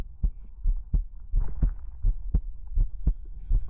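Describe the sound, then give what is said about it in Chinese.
A steady heartbeat thumps in muffled lub-dub pairs, about seven beats in an even, unhurried rhythm over a low background hum, with no voices. “仔细聆听心跳的复苏之音，这是我对你的祝福。”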